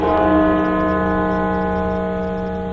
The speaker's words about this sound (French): Le son des cloches et le drapeau américain en berne, en hommage aux 500 000 morts du Covid-19 aux États-Unis.